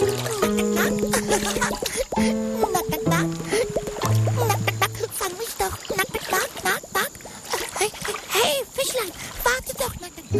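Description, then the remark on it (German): Short melodic tones open, then busy, continuous splashing and sloshing water takes over, fairly loud, as a fish and a duck race each other swimming, with some playful vocal sounds mixed in. “Schließlich schwammen der Fisch und die Ente um die Wette.”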